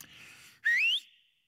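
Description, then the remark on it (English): A breathy inhale, then one loud, piercing human whistle, a father's call for his children to come home, that sweeps sharply upward in pitch and cuts off after about a third of a second, with no talking. “And all of a sudden, I knew it was time to go home when I heard this very familiar, my dad wouldn't shout, we'd be blocks away, but I would hear the whistle. Now plug your ears for a second, but this is a little bit what it sounded like.”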